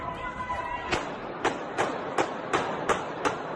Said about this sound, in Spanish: Bueno, es el sonido de los disparos en un centro comercial al noroeste de Moscú, en un ataque terrorista que ha dejado al menos 60 personas asesinadas, 60 muertos, según el último dato actualizado.